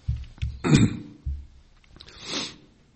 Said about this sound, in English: Sorry, I apologize. A little of that congestion still there. See, on Beyond Today, you could actually just cut out that cough and just... But now it's live. Apologize.